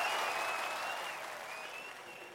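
Steady, dense hand clapping by the host, Kramer, during a stock-market call-in show, a continuous crackle of applause that stays loud and fades slightly toward the end, with no voices over it.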